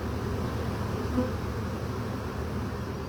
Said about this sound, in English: They're releasing a Nazanoff pheromone to kind of tell the other, it's like a homing pheromone, telling the other bees to come down here. You can see even in the swarm, the bees are now starting to walk down towards that piece of comb into the hive.